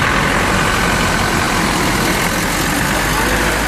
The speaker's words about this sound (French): La gare de fret de Chongqing, point de départ du Usinan, ce train Asie-Europe qui avale 11 000 km et traverse 6 pays avant d'arriver à Duisbourg, en Allemagne.